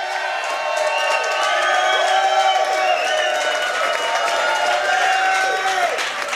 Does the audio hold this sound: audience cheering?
yes